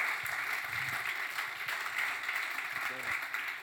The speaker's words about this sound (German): Grossartig, grossen Applaus